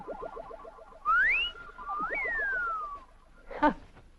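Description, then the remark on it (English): A bird gives a wolf whistle: a sharp rising note, a pause, then a long falling glide. Soft, rhythmic cooing pulses run underneath, and a short burst of chatter follows. “I bet that's the first bird that's ever given a wolf whistle.”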